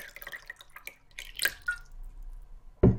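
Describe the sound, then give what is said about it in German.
Whisky is poured from a freshly uncorked bottle into a glass, trickling and dripping in a quick, bright splash, with a few small wet clinks and pattering drops, followed by a sudden low thump at the end. “Du nimmst deinen Lieblingswhisky, ziehst den Korken aus der Flasche und schenkst dir ein Glas ein.”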